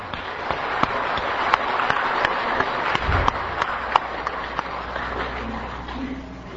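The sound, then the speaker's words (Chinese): A crowd claps steadily for several seconds, a dense, continuous patter of many hands with a few sharper claps standing out, fairly loud; warm applause at a Buddhist gathering welcoming a master to begin speaking. “那咱就再次热烈掌声来热请上主下本大老师开始五道一正道”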